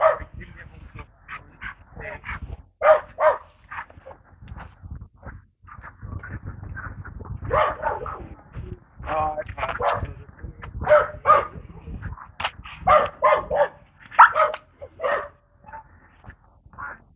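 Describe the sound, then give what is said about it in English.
A dog behind a fence barks over and over at a husky on a leash passing across the street, in irregular bursts, some sharp and some yelping or whiny, for nearly the whole stretch with brief pauses between volleys. “Husky on a leash across the street with the dog behind the fence, taking objection.”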